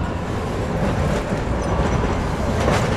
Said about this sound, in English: Here, the Green Line subway runs above ground, down the middle of Commonwealth Avenue, past a world array of ethnic restaurants, bars, and clubs.